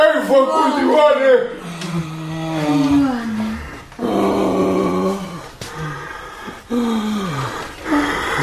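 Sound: dog howling and growling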